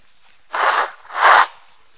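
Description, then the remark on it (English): Someone blows their nose twice in a row, two loud, breathy, rasping bursts of about half a second each, with a brief pause between and no talking. “Can I just, while I need to blow my nose, ask you to read 14 and 15 to one another.”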